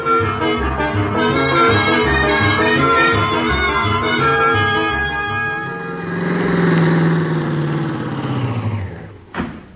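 A car engine is started by Miss Brooks and churns and idles with a steady pulsing rumble, then revs up into a smooth rising roar as the vehicle pulls away, heading for Clay City, ending with a sharp click.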